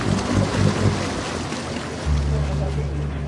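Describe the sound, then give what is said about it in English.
A boat's engine drones steadily over a wash of water and wind noise, its low hum growing stronger partway through as it approaches from a distance towards a man swimming in the water and comes close. “In the distance, a boat coming towards him.”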